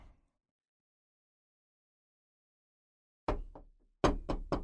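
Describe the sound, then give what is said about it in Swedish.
Knocking on a door: a pair of raps, a brief pause, then a quicker run of three firm knocks, with silence before them and no talking. “Nej, jag knackar på hemma hos dig och din...”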